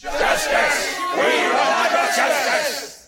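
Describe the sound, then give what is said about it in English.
A large army crowd of men lets out a sustained, angry roar, rough shouts rising and overlapping through the swell of voices at a steady loud level before it fades at the end. “A growl of anger sounded, pierced by harsh shouts.”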